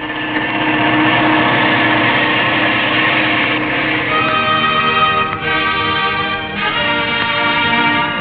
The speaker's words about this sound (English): The rescue planes guide a party of horsemen to the spot